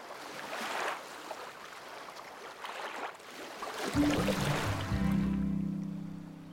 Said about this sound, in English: And Blue loved listening to the calming waves that washed ashore on Pirate Panda Island.